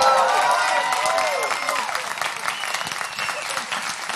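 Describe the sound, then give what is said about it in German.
A live audience in Osnabrück bursts into loud, sustained applause mixed with cheering and whoops, dense clapping filling the space and gradually easing slightly toward the end. “wir müssen mit Gut Abgehangen nach Osnabrück, weil hier haut das Publikum einfach von sich eine Riesenstimmung raus, weißt du?”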